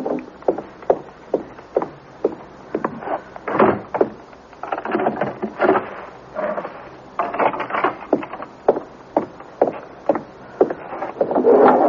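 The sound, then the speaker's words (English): A steady run of sharp wooden knocks and thuds, like steps moving across a floor, then a door pushed shut and a chain fastened. Nobody speaks. “Mother, will you please just go and close the door and put the chain on, too?”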